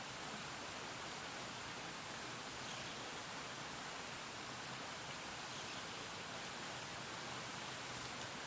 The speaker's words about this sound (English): Okay. So now we got a waterfall.